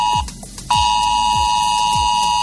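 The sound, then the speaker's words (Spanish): A loud, harsh ES-Alert emergency alert tone on a mobile phone blares almost continuously, a steady high buzzing pitch with a brief dip, overlaid by repeated low thumping pulses about every half second, during real-time tests of the alert system by the Dirección General de Protección Civil. “Y es que desde hoy mismo y hasta el próximo 16 de noviembre, la Dirección General de Protección Civil va a realizar las primeras comprobaciones en tiempo real de S-Alert, lo que significa que de repente tu móvil puede empezar a sonar así.”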